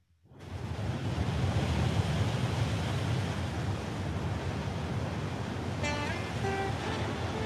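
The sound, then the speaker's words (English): Ocean waves wash onto the shore in a steady, full roar of surf that rises quickly and holds. A few brief high tonal calls cut through near the end. “Okay, if you're happy to hear about Krishna's pastime, the first time he encounters the saltwater ocean, then please listen.”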